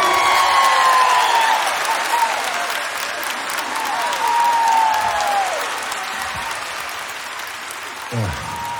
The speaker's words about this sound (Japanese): 改めて紹介しましょう。私にとってベースボーカルは後にも先にも彼しかいません。盛大な拍手を。